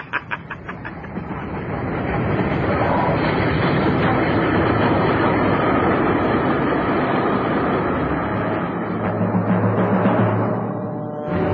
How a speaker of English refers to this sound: Here comes the train.